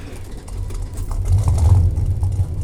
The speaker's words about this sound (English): Hell yeah, man. Listen to that baby purr. Know what people say about cars.